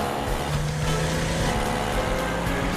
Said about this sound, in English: The rest of the orphans head down the street as Mr. Williams approaches in a car.